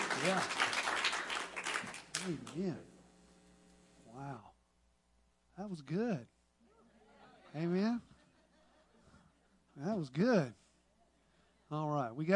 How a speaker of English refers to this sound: Church, give yourselves a nice round of applause.